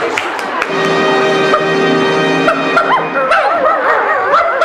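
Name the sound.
dog barking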